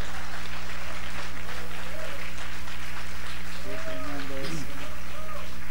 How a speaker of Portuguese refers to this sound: Aplauda al Señor, aplauda Dios al Señor.